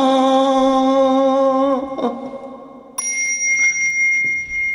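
A bell rings out twice, first a fuller, lower tone that fades over a couple of seconds, then a bright, high-pitched strike that keeps ringing clearly up close, with no voices.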